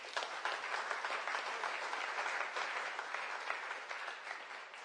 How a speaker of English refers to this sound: Clap your hands together for Jesus.